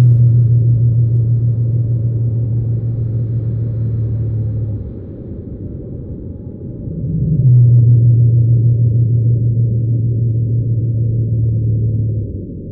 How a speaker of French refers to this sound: Et dans mes enregistrements de Crozet, c'est la 2e espèce que j'ai enregistrée aussi, la baleine bleue pygmée de Madagascar.